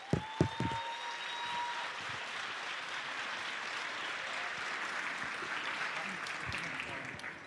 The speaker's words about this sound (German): Und riesigen Applaus bitte. Applaus, Applaus, Applaus.